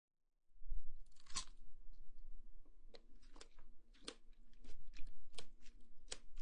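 Steady chewing of a sticky, homemade, steamed pork belly rice dumpling (zongzi) wrapped in leaves, with soft wet mouth sounds and occasional sharper smacks repeating irregularly for several seconds, no talking.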